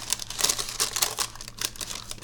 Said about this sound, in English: Oh, cool. It just peels right off the paper. And it's a little sticky.